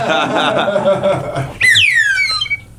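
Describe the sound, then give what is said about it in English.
A short, sad-sounding whistle slides downward in pitch for about a second, following a moment of voiced chuckling or murmuring. “Oh, that was a sad whistle.”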